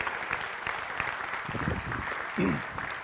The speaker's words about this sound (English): So everybody give her a round of applause for that.